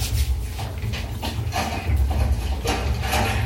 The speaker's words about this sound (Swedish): Åh, motorsåg.